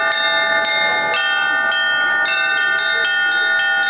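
Several church bells ring from a belfry at an outdoor event, in a steady, overlapping peal, bright metallic strikes arriving roughly every half second over a sustained, shimmering hum of tones, loud and continuous with no voices.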